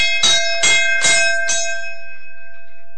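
A golden hand-rung bell hanging behind the seat of a 1928 Model A Ford fire truck in Petersburg clangs four times in a quick, steady rhythm, loud, then its bright metallic tone rings on and slowly fades away, with no voices.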